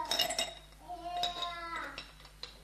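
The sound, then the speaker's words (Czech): A few light glassy clinks as a small glass is set down gently and carefully, followed by a soft, faint ringing tone and small taps. “A to musím dát opatrně, protože se mi včera stalo, že jsem už jednu takovou sklenicky rozbil.”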